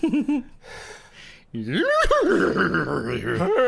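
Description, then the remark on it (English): A person imitates a backwards horse neigh, with breathy warbling at first, then a loud, wavering whinny-like cry that quivers up and down for about two seconds. “And then speak in a backwards nay to Baphomet.”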